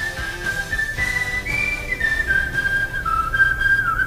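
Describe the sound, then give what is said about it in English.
A clear, melodic whistled tune at the end of a song carries over a full band backing, the pitch stepping up and down through a catchy phrase before holding near the close. “Gotta wait for the final whistle before I start talking.”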